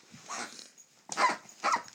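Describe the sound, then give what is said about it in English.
A dog, Johnny, chews a pheasant squeaky toy, squeezing out three rough, wheezy squeaks in uneven bursts, with a low growly rasp mixed into each squeeze. “That's Johnny squeaking pheasant.”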